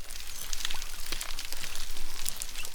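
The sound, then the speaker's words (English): Dense underwater crackling of snapping prawns in parts of the Indian and Pacific Oceans, countless sharp clicks popping steadily like frying fat, with faint munching and brief squeaky chirps from dugongs scattered through the fizz. “If you were to stick a microphone into the water in some parts of the Indian and Pacific Oceans, alongside the snapping sounds of prawns, you might hear some munching and squeaking noises.”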